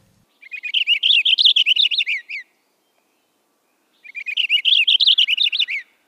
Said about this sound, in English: And the first one is a purple finch. These little purple finches almost sounds like you're rewinding a reel-to-reel tape at fast speed.